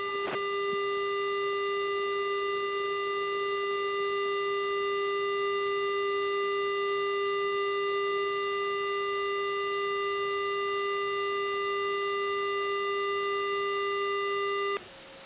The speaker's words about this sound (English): Okay. Someone is not under duress. It sounded like an alarm.